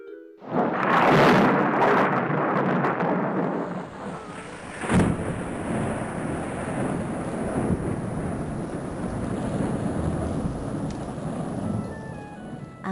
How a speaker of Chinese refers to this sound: 对了，这就是打雷。